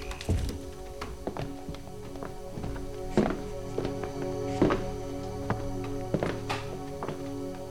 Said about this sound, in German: Wir gehen rein. Aber leise. Man darf uns nicht hören. Gut. Los, Tür zu.